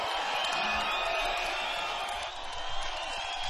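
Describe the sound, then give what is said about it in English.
A dense, steady roar of a concert crowd in Halifax, after the band has left the stage, yelling for more and clapping, with scattered thumps of stomping feet mixed into the wash of noise, holding at a constant loud level throughout. “just left the stage here in Halifax, and the crowd is stomping their feet, clapping, and yelling for more.”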